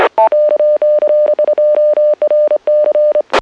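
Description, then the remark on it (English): The zero button on a phone keypad is pressed over and over, sending a rapid run of about fifteen short, loud touch-tone beeps with tiny gaps between them, ending with a brief click. “I'm sure you've tried this before, just hit zero on the phone pad, and sometimes, if it doesn't work once, but if you just keep doing it over and over again, sometimes it works, sometimes it doesn't work.”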